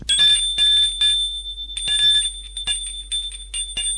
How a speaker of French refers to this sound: Un après-midi, l'on sonne à sa porte.